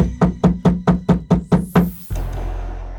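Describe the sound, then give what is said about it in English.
Heavy knocking on the wooden door of a small home: eight loud, booming blows in a quick, steady rhythm, followed by a sustained low rumbling noise once the knocks stop. No one speaks. “Runa stepped towards her threateningly, but she was stopped by a heavy knocking at the door.”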